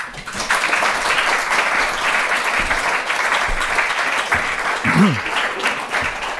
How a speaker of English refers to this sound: So give us a warm applause for the first speaker of this TDF.